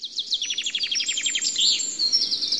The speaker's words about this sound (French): C'est agréable, hein ? Le vent dans les feuilles, les oiseaux qui chantent. Ce matin, promenons-nous dans les bois.